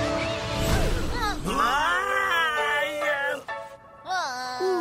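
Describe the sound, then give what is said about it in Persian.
A cat meows and yowls repeatedly, with several loud, drawn-out, wavering cries in close succession, preceded by a brief burst of clattering noise. “بیشتر یه چشمه بی پایان پر از فیلم گربه ها.”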